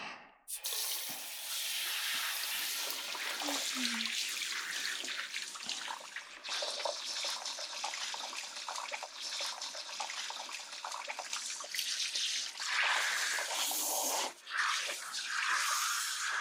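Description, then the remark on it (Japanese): Hot water runs steadily from a tap or shower for the whole stretch, a broad hiss with splashing as it pours over hair to rinse out shampoo, briefly interrupted a couple of times. “今からお湯を出して洗い流すですよ。”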